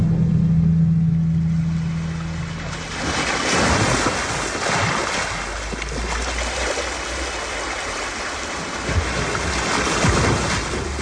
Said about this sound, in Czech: Černé moře. Jak se přes něj dostanu?